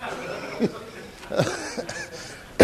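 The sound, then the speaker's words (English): A person with the flu lets out several short, rough coughs and hacking bursts at irregular intervals. The coughs are fairly loud, with a sharper, louder cough right at the end. “I've had the flu ever since I decided that we ought to get in on this thing. And I'm still coughing and hacking, but I'm still here.”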